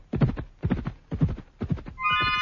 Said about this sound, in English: An ordinary horse may have had the speed of the great horses, but nothing like the staying power. They could keep it up for hours, that ponderous, earth-shaking gallop.